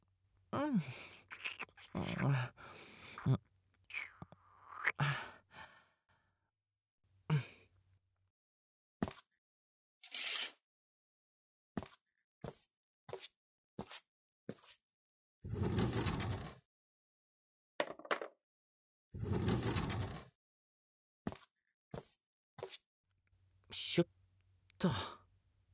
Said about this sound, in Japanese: 鍵もかけて外出中の札も出したし、これでよし。